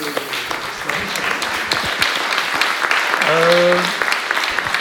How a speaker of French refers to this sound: Bah, en fait, je propose juste qu'on s'applaudisse pour ces échanges.